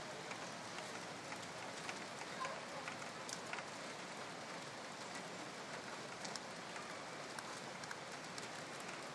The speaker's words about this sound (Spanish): Está lloviendo bastante.